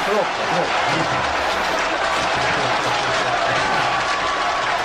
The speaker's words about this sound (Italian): Complimenti. 92 minuti di applausi! Complimenti, bravi!